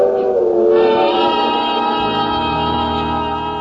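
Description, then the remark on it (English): A freight train, headed south toward Denton, passes loud and steady, with a sustained droning, horn-like tone over low rumbling throughout; no one speaks. “It is a freight. And the deputy looking toward it momentarily is blinded a little by the light.”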